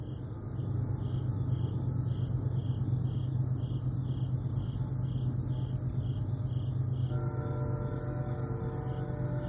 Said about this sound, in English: I have no idea how loud that train is in the background. She's really rolling.